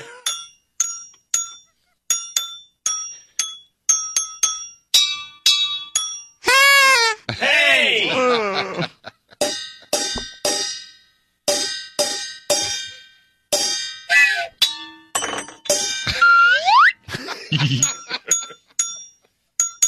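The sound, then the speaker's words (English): Bright bells ring out one note after another in a steady, tune-like sequence, each tone clear and briefly sustained, with a couple of short vocal outbursts breaking in midway. “That last note was a bit suspect. Can we do Carol the Bells?”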